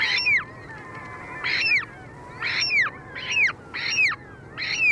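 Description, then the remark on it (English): Ivory gull calls, harsh squealing cries repeated about six times at a steady pace, each with a sharp downward-sliding tone, fairly clear over a low background rumble. “Less familiar is a remarkable bird that shares with the polar bear this vital link to ice, the ivory gull.”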